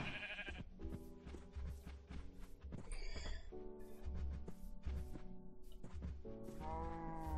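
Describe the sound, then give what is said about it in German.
A Minecraft sheep bleats several times in close succession, loud, with wavering nasal cries over a steady low background rumble and no talking. “Ah, jetzt ist das Schaf wieder da.”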